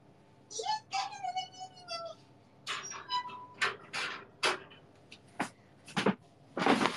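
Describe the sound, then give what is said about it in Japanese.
A pet, Momi-chan, gnawing and rattling at something, with a run of sharp, irregular clattering bursts that follow a brief wavering, whiny vocal sound at the start. “カタカタ聞こえた。”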